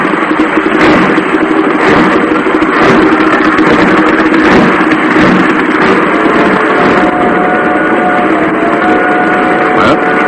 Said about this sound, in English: The Empire Builder leaving. And what a train. Oh, it's a wonderful train.